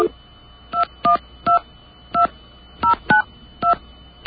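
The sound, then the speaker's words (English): Touch-tone dialing of a phone number with a 1 in front of it as a long-distance code: about nine short, clear dual-tone beeps pressed at an uneven pace, each a distinct pitch, with a faint steady hum underneath and no talking. “All right, now I'm going to try the same number. I'm going to put a 1 in front of it.”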